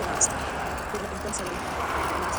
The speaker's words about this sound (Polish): I to jest chyba zajezdnia. O, właśnie. W tej chwili ten pogłos to jest zajezdnia.